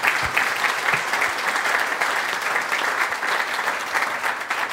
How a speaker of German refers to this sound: Ja, Applaus für Manila.